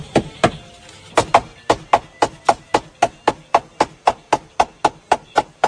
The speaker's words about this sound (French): Donc c'est parti pour 1500 coups de marteau, là, sur ce tissu orange.